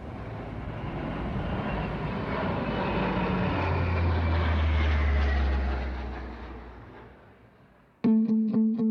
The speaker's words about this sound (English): So you can imagine at 1 or 2 o'clock in the morning, this thing flying over your house at that speed with two engines, and they got four bladed propellers on them.